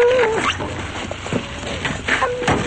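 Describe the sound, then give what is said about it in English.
A large black dog whines and whimpers, a few drawn-out, pitch-bending cries with short breathy snuffles between them, over a steady low background hum. “He looks back at a large black dog.”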